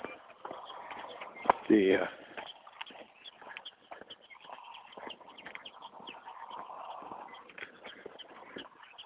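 A prairie dog sitting on a burrow in a field in spring gives a chirping alarm call, one loud, sharp chirp standing out early on, with fainter repeated chirps scattered through a rustling, scratchy outdoor background.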